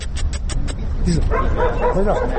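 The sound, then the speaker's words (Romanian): Maidan, a street dog adopted by activists in Chernivtsi, Ukraine, barks and yips in short, high, excited bursts over a noisy outdoor background, following a quick series of sharp taps at the start. “Maidan este un câine al străzii care a fost adoptat de activiștii din Cernăuți în noaptea de 18 spre 19 februarie”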